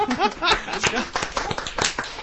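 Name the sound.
audience clapping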